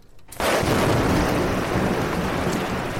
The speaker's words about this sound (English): The storm's getting worse